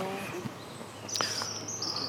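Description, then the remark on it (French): A small bird calls tip-tip-tip with thin, high-pitched notes in the second half, moderately faint, over a soft background hum with a brief sharp tick. “Ben où il est passé, le petit oiseau? On l'entend faire tip-tip-tip, mais on voit pas.”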